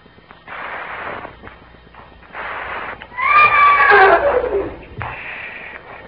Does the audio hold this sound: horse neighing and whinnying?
yes